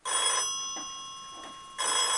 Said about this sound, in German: sitzen gemütlich zu Hause, als bei ihnen das Telefon klingelt.